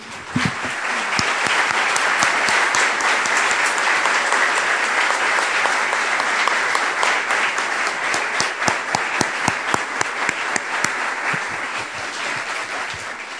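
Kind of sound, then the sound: crowd, audience applauding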